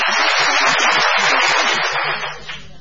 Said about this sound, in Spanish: Por ejemplo, pongamos los aplausos.